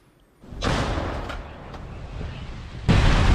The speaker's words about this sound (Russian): Конкретно на том участке, где побывали мои коллеги, работает на вооруженные силы Украины трофейная российская гаубица.